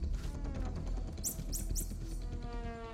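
Three rapid, high-pitched alarm chirps from social primates spotting an attacker, a snake, signalling the highest level of danger, ring out in quick succession, sharp and piercing above a steady, dense background of natural rustle and hum.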